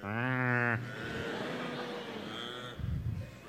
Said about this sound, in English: And they came in this great big, huge truck, and there was a whole herd of 10,000 cattle out there in the darkness, right out there under the prairie starlight, lowing and mooing.